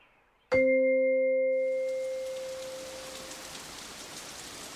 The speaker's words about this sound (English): It's rainy outside.